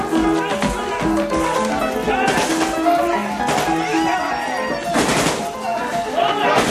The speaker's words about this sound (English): The soldiers waiting in the stairwell charge up. Shots flash through the halls. The soldiers storm every floor.